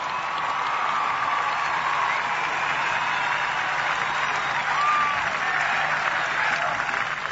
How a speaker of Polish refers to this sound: I stąd wysyłamy mu serdeczne pozdrowienia i gorące oklaski.